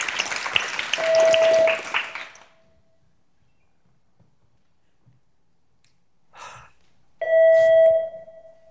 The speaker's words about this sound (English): Houston, we seem to have a problem here. Seems like we have an unknown beeping object at our comms panel. Please advise.